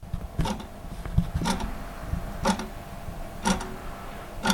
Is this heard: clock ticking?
yes